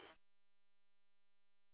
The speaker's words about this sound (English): Yeah, it sounds good. There's that Roger beep at the end, though. Oh, I know. I need to turn that off. This is one of them new Baofeng UV5R minis.